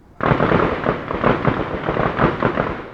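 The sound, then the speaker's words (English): Rapid gunfire crackles in dense, overlapping bursts, a loud, sustained barrage that surges in uneven waves for a few seconds with no voices. The gunfire is heard in a town, where it comes in waves throughout the day. “Once the shooting begins, it comes in rapid-fire waves throughout the day.”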